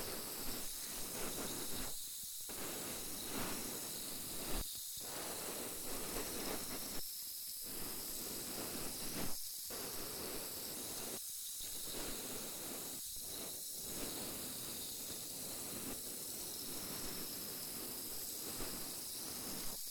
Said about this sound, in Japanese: シュワシュワって音するの不思議よね。この音不思議と落ち着くわよね。私も好きよ。